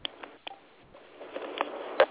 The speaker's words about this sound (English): Somebody, you press 1 on your phone.